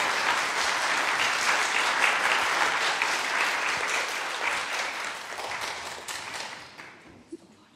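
An audience applauds, a dense wash of many hands clapping at once, steady and fairly loud before gradually thinning and fading out near the end.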